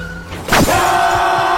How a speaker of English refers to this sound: All hell broke loose when a pickup truck sped up and slammed into us from behind. It happened so fast that I could only remember the sound of me and the boy screaming in terror.